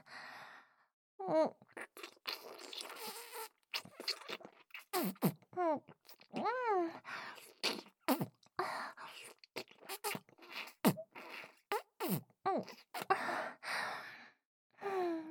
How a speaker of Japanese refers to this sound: 音がついちゃうくらいのこんなキスしちゃいました。プルプルの唇をグリグリって押し当てて、わざとらしく下品な音立てちゃいます。